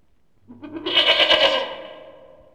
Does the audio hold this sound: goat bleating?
yes